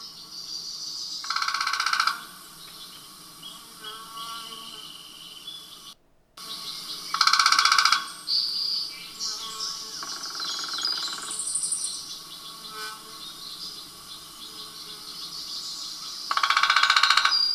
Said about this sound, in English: Let's listen to a flicker drumming.